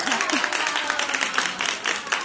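Children clap steadily for a classmate who is about to recite a poem, dense overlapping applause at moderate loudness, with a faint voice or two rising briefly near the start.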